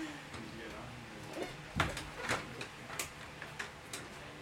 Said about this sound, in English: Excuse me, I gotta close the door.